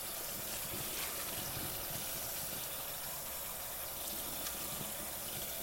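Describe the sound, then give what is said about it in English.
A kitchen tap runs steadily with a dense, hissing splash as a dish is slid under the water in the sink. The flow is continuous, with faint clinks and shifts in the spray. “Sliding it under the water and watching as the temperature changes.”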